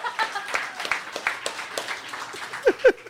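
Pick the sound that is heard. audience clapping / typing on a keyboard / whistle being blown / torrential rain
audience clapping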